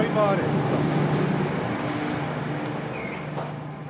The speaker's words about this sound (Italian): Lasciamo il rumore delle macchine